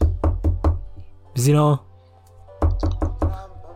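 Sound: knocking on a door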